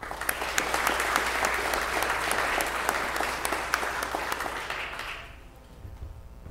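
A crowd applauds graduates one morning, steady dense clapping with a few sharp individual claps standing out, holding strong for about five seconds before fading off into a low hum.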